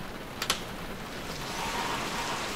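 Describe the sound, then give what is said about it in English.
Steady rain hisses across a wide band, dense and continuous, falling on a quiet, warm early morning, with a couple of sharper taps near the start and the downpour swelling slightly toward the end. “I step outside in the rain.”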